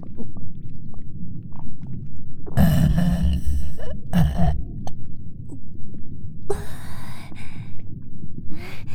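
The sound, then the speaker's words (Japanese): Three short, low, throaty burps, spaced a second or two apart over a soft, steady rumbling background. “ごめんね、お姉ちゃん、ゲップ出ちゃった。”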